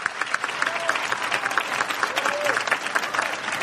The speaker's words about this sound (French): Oui, vous pouvez l'applaudir.